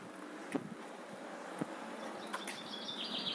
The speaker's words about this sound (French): Et pareil, en bas de chez mon père, c'est beaucoup plus petit, c'est juste une allée, mais il y a plein d'arbres, et donc du coup on entend plein d'oiseaux.